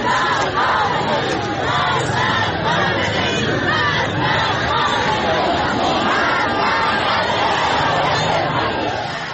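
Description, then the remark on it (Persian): A large protest crowd at the funeral of a 16-year-old killed in the protests, in the town of Abdanan, chants harsh anti-government slogans together, loud and continuous, with many voices blending into a dense roar and rhythmic rises of shouting throughout. “جمعیت پرشماری حضور دارند و شعارهای اعتراضی تندی هم علیه حکومت سر میدن.”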